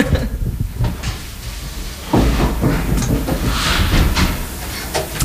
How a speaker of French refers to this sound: Il y a un écho, je vais fermer les portes plutôt.